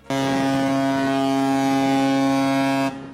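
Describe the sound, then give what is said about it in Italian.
A single long, deep ship's horn blast, loud and steady for nearly three seconds, rich with harmonic tones before cutting off abruptly, used as a programme's siren announcing its first segment, Conversazione sul ponte. No voices accompany it. “Ed ecco la nostra sirena che ci ricorda che stiamo per entrare nella prima rubrica, Conversazione sul ponte.”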